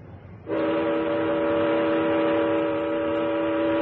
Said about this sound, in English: Sound the siren.